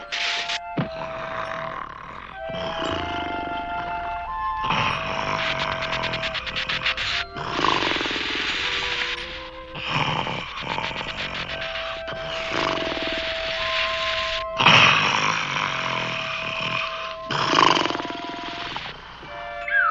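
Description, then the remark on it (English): A person snores loudly and steadily, each rough, rumbling breath lasting a couple of seconds with brief pauses between, some carrying a whistling or honking tone. No one speaks. “you're snoring.”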